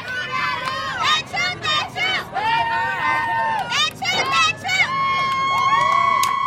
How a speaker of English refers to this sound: The school's fans, about 50 strong now, begin to cheer.